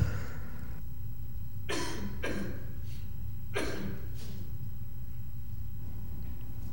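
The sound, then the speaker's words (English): A person coughs in two quick pairs of sharp, rough bursts, with a short pause between the pairs, over a steady low hum and no talking. “Perhaps I'm coughing because their example is so ridiculous.”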